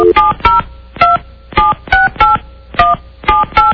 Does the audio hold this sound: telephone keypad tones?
yes